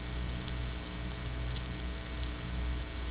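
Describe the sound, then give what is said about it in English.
Speech remade entirely from buzzer-type energy for both voiced and unvoiced sounds, heard as a steady, harsh, droning electric hum with faint syllable-like fluctuations running throughout, moderately loud, with no natural voice present. “This is the all buzz condition, and we are now remaking speech out of buzzer type energy, both in the case of voiced sounds and unvoiced sounds.”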